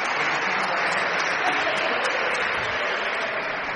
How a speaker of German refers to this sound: Den ersten Stein haben sie schon. Kleinen Applaus.